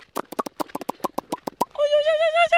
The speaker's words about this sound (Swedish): Han går hästen. Han går.